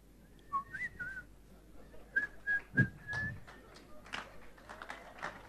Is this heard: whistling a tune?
yes